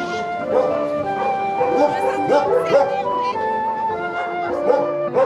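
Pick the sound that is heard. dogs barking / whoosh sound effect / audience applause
dogs barking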